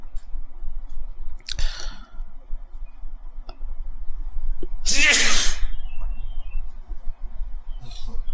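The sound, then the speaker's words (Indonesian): A single loud sneeze bursts out about midway during an Islamic hadith lesson, sharp and breathy, preceded by a softer huff a few seconds earlier, with a faint hum and faint clicks around it. “Alhamdulillah. Ya, yahdikumullah islih banakum.”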